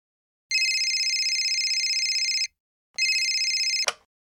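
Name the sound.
telephone ringing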